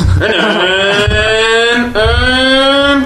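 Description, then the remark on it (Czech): A voice imitates a revving car engine into a microphone to drive in the racing game Racing Pitch, with a buzzing, harmonic drone that rises in pitch, drops briefly, then climbs again. It is loud and continuous, with no other sounds. “Mně to přišlo úplně bezvadný, že jako nápad, že musíte na mikrofon simulovat zvuky motoru, takový ten vysavač, abyste mohli jet.”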